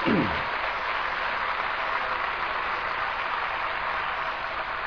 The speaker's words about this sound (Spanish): Bueno, aplauda al Señor. Él lo hizo.